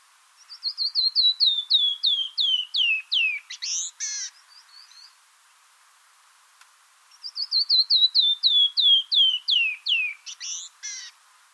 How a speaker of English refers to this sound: Another favorite of mine is the descending whistle of the canyon wren. Here's one singing in the mountains of southern Arizona.